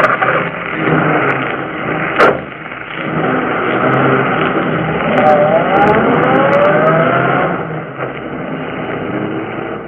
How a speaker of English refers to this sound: The two young criminals fled the scene in the murdered man's automobile.